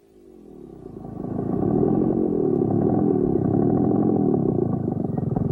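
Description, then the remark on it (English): A motorbike engine outside a cafe at night swells over the first couple of seconds, then holds a steady, low throbbing rumble with a faint rattling edge. No voices. “Suddenly, he heard the sound of a motorbike outside.”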